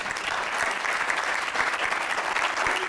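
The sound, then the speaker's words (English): An audience applauds a woman steadily, a dense, sustained patter of many hands clapping with no pauses, fairly loud throughout. “Give her a clap.”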